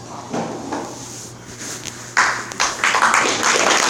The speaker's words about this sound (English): Thank you. And let's give our guest speaker another round of applause. Please.